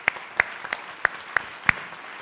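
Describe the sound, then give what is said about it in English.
Sparse audience applause at a post-play discussion: a handful of sharp, scattered claps at uneven intervals over a soft background hiss, with no voices. “I first of all, please applaud”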